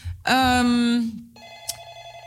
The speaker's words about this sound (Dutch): We gaan even een telefoontje opnemen.